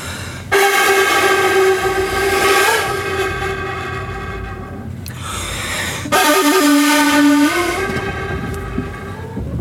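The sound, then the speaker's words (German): Breathy, sustained wind-instrument tones imitate wind rustling through a bamboo forest: two long loud notes separated by a brief airy pause, the second one bending down in pitch before fading. “Sasabuki heißt das Rauschen des Bambuswaldes. Und das heißt, ich muss praktisch das Rauschen des Bambuswaldes imitieren.”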